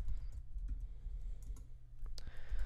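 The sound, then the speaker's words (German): Keys clatter in an uneven series of quick clicks, typing on a computer keyboard at a slow, halting pace while coding an event handler, with a steady low hum underneath and no voices. “Also ganz schnell ist relativ, weil ich mit dieser Tastatur relativ, also wirklich langsam bin.”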